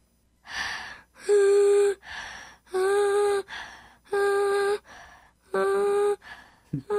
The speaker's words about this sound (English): Yeah, and you kids can try it at home too. You blow out and then sing as you're breathing in. See if you can do it.